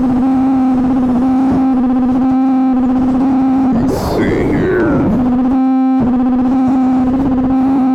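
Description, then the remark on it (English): A voice comes through a buzzy, distorted electronic vocal effect produced by a microphone circuit, the effect increased by removing a capacitor, over a steady humming drone, with a brief garbled, warbling burst in the middle before the drone settles back in. “That should be a little bit more of a vocal effect.”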